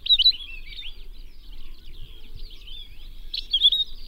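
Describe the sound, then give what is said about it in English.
A palila sings a steady stream of high, warbling chirps and trills, brighter bursts at the start and end, over a faint low rumble with no talking. “But there's a chance of saving the palila if we're proactive.”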